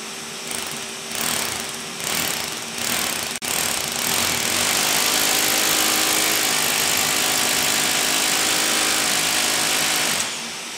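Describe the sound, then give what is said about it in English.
A hammer drill bores a hole into a concrete floor, starting in short stuttering bursts and then grinding steadily and loudly for several seconds before cutting off. “So I'm going to start with this hole first. Just got the vacuum out. We'll suck up the dust.”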